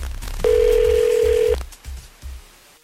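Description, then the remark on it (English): A phone call from the radio show Thunder and PT's Second Date Update to a listener ringing out: one steady, mid-pitched ringback tone lasting about a second, then a few soft low thumps. No one speaks. “We are calling up our listener”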